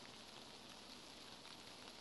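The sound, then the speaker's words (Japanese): Steady rain patters on a surface, a dense, even hiss of countless small drops with no pauses, soft and continuous throughout. “あ、雨だ。”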